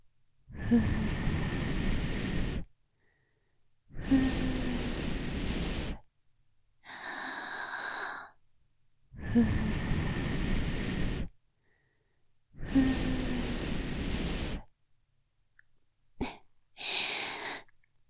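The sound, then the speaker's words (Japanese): Breath blown into the ear: four long, loud, airy whooshing exhales, each about two seconds, in a slow rhythm with softer, hissy inhales between them. No talking. “耳に息吹きかけられながら、チンポシコシコしちゃうの、気持ちいい？”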